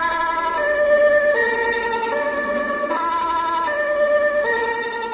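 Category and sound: vehicle, emergency vehicle sirens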